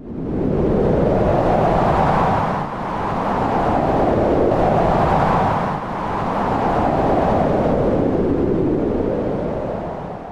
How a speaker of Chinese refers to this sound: 大风呼呼吹住